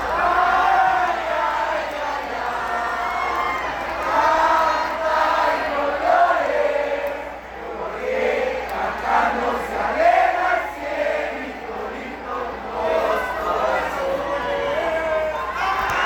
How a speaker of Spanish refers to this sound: Al final, el público aplaudió y aclamó a sus jugadoras, que dieron un gran espectáculo. Se fueron contentas de Jalisco y todos salieron felices del estadio Tepa Gómez.